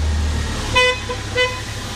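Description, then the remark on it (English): Two short forklift horn beeps, about half a second apart, over a steady low engine rumble, as a forklift honks at an intersection while passing down an aisle. Nobody speaks. “And that's why they also honk at every intersection.”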